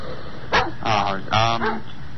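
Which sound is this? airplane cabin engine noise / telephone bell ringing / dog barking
dog barking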